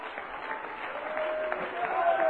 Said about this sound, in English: I believe He knows what He's doing, don't you? Let's give our Lord a hand clap. Come on. Hallelujah! Praise the Lord!